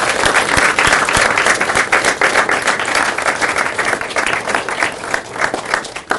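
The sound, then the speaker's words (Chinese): A crowd applauds steadily for about six seconds for the three-year retreatants who built the retreat houses, a dense wash of many hands clapping at an even, loud level with no voices over it. “如果你是服务了这三年的闭关者的话，我想要给他们来鼓掌，鼓掌一次。”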